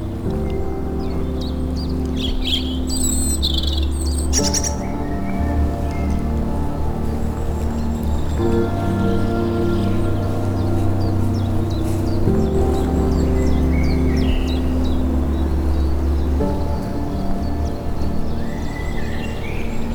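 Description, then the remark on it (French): Birds chirp and call intermittently around a small coastal village as people wake, busiest in the first few seconds, over a steady low engine-like hum that fills the whole scene outdoors. “Autour de ce petit village côtier, les gens s'éveillent au milieu des oiseaux.”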